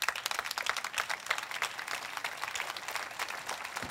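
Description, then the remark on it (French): An audience applauding steadily for a few seconds, a dense, even patter of many hands clapping with no voices standing out. “Ça fait mal, mais on va applaudir pareil.”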